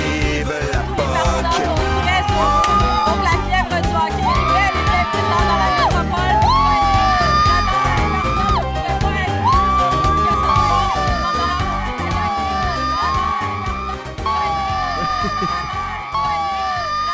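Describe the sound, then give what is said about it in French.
A girl screams in high, wavering bursts over the steady roar of a large cheering crowd, her shrieks rising again and again above the loud, continuous noise. “À la fille qui crie, là, ça fait toujours ma journée.”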